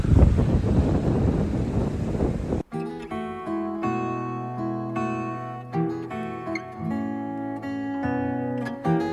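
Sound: wind and waves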